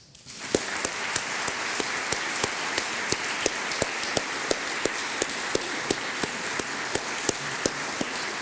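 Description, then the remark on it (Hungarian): An audience bursts into sustained applause for the Rosetta team and especially its Hungarian participants, a dense wash of many hands clapping that holds steady throughout, with a few sharper, louder claps punctuating it at a regular rhythm. “és én hadd biztassak most mindenkit a tisztelt közönségből, hogy az egész Rosetta tímet és különösképpen a magyar részvevőket tapsoljuk meg.”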